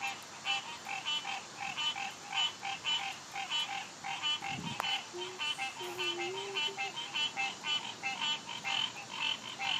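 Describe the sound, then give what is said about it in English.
A dense chorus of frogs calls steadily from a pond in an apartment complex, overlapping trills and rhythmic croaks pulsing without a break at moderate volume, with a brief low thump partway through and no voices. “I'm overlooking a pond in my apartment complex, and let the mating season or the cat calls, frog calls, whatever is going down below me, get on it.”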